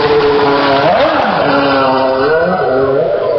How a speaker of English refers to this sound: As you'll be able to hear from that, we are looking at the modern Formula One cars. We're looking at a Toyota, Red Bull and a Ferrari. A huge crowd has gathered to see this. Immediately, the first thing that strikes you is, whoa, the noise,